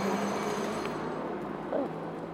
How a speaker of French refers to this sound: Dans un milieu, là, au moment où on prend ce son, les marteaux-piqueurs, les voitures, c'est hostile, c'est le chaos. On vit au milieu du chaos, les gens passent chaque jour, résignés, sans se poser de questions, et on subit.